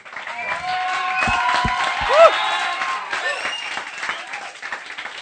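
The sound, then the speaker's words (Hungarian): A crowd applauds God steadily for several seconds, with scattered cheers and whoops rising over the clapping and a brief shout standing out midway. “Illetve tapsoljuk meg Istent!”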